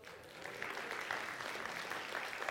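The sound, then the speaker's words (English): Steady applause from a church service audience, a dense patter of many hands clapping at a fairly even, moderate level throughout, with no voices standing out. “For those of you who are clapping, I saw what he did.”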